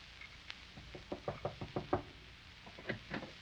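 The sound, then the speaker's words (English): A quick series of sharp knocks on a door in a house, about eight raps in an irregular rhythm, followed after a short pause by a few more knocks, moderately loud. “Opportunity never stops knocking in this house.”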